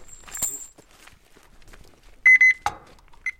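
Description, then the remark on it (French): A thermometer beeps sharply twice in quick succession, followed by a few more brief electronic chirps, loud, after a stretch of quiet shuffling and handling noises. “C'est un thermomètre, mais c'est un peu comme une horloge.”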